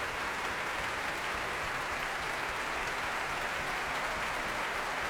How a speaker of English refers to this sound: Jean-Yves Thibaudet back on stage with him, conductor Philippe Jordan applauding him and motioning to the various members of the orchestra